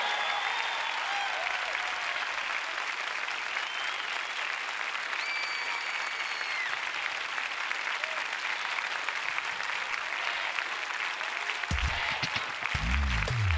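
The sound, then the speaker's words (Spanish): Sustained audience applause for the teacher, with the audience asked to stand: a dense steady wash of clapping that stays loud for the whole stretch, with a few faint whistles and a brief voice rising near the end. “Te pongo de pie y le das una gran porra a tu maestro.”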